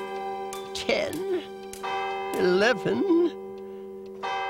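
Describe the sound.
A clock strikes twelve at midnight, its deep ringing tones struck at a slow, even pace and sustaining between strikes, while a voice sounds over parts of the chimes.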